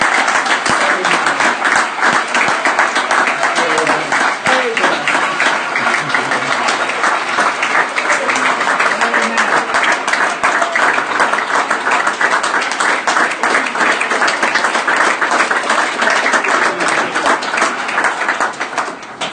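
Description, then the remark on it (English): A large audience applauds with sustained, loud clapping that continues steadily for the full length, a dense wash of many hands with no voices standing out. “I think I heard all you people out there screaming, standing up, clapping your hands with the rest of the congregation here.”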